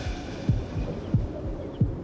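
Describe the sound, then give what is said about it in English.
A rapid heartbeat thumps steadily, each deep, muffled beat landing about every two-thirds of a second with softer pulses between, over a low background hum and no voices. “I gave him a heartbeat. Man, that's what it's supposed to do! No, my shit beat too fast.”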